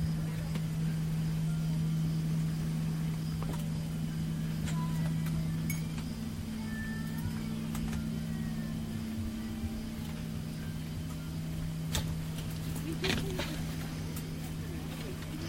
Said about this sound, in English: You hear the hum of the engines, or the air conditioner.